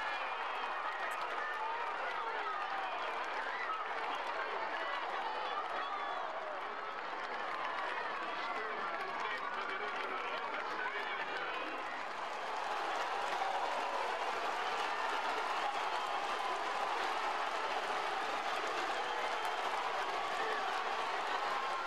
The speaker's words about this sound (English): We leave you with the race of the saints in Gubbio, Italy. The actual saints rest in peace, but the statues of three saints are borne aloft through the medieval streets in cheering throngs.